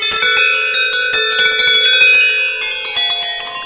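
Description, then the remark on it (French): A bright metal Korean Buddhist bell, bought in Seoul, struck repeatedly with sticks, its ringing overtones layering and sustaining into a dense shimmering wash with frequent new strikes, fairly loud, no voices. “celle-là vient de Corée. Je l'ai achetée à Séoul.”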